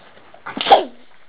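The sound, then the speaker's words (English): One short, sharp sneeze bursts out, a quick explosive puff of breath that fades within a second, with quiet surroundings before and after. “Bless you.”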